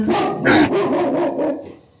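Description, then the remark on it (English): A big protective dog barks at someone walking on the street in a quick run of about six loud barks with no pauses between them, and the last few fade off at the end. “I think my dog is very my big protective dog.”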